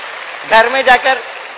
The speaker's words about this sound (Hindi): अरे वाह, अपने लिए जरा जोर से तालियां बजाइए, वाह।